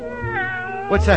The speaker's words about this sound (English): A cat. A real, live, scrawny, lovely alley cat. Hey, kitty, kitty, kitty. Hey, pussy. Come on, kitty.